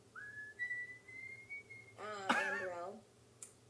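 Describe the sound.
A person whistles one long, steady note that drifts slightly upward for nearly two seconds, followed right after by a brief burst of a voice.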